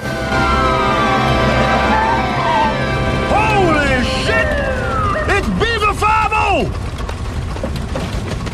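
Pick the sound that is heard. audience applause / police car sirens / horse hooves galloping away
police car sirens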